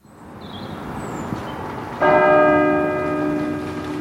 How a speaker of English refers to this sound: On a serene spring evening, a chapel bell rings out across the grounds of an Oxford college, a picture of peace and calm.